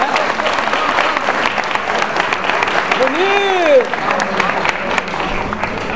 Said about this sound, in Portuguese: Ó, uma salva de palmas pra eles aqui que vieram até a cadeira branca.